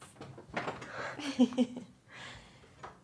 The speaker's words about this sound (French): Hop, ouvrons la petite porte qui grince.